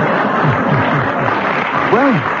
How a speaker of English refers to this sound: It was extremely interesting, and the audience applause endorsed that comment, but I'm afraid you did commit one of the breaches.